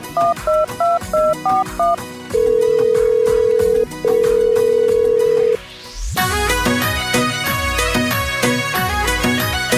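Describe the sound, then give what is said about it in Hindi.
A quick series of dialing beeps, then two long steady ringback tones as a phone call goes out to a brother-in-law, followed by loud, bright music with a driving beat, like a caller tune. No voices. “अरे भाभी सा, जीजा जी ने फोन लगाऊँ? हाँ लगाओ तो सरी, कहीं करे नंदोई सा देखा।”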